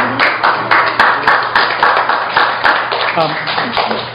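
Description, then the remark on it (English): An audience applauds at a council meeting, many hands clapping in a dense, steady patter that holds at an even loudness for several seconds, with voices murmuring underneath. “We ask that you not applaud.”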